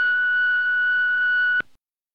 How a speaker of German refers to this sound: Na egal, dann quatsch du nach dem Piepton, wa?